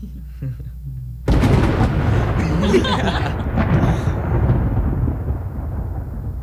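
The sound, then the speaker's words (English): A low rumble gives way to a sudden, loud crack of thunder that rolls on as a heavy, broad roar, slowly fading over several seconds. “That was just thunder.”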